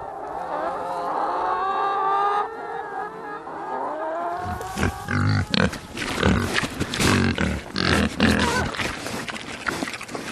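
Pigs make a drawn-out, whiny squeal for several seconds, then switch to a burst of rough, rapid grunts and snorts that continue irregularly until the end.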